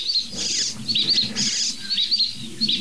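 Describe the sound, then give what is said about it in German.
Jackdaw calls ring out several times in quick succession, sharp and chirpy, over a soft low rustling patter in the background, with no one talking. “Und da eine Dohle.”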